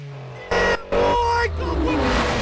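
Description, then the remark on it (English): A powerful Evo sports car engine is revved loudly in two sharp bursts, then settles into a sustained throaty rumble as it speeds away, dominant. “Brian revs the Evo as the Challenger speeds home.”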